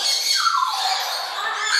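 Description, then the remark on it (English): A single long, harsh macaw squawk, loud, a raspy screech that holds for nearly two seconds with a slightly falling pitch, with no talking over it. “Cockatoos or macaws? The macaw, whatever”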